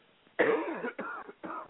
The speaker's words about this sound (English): Excuse me. I just need to give me a drink of water. I'm coughing.